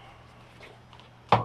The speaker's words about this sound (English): Oh, someone's knocking at my door.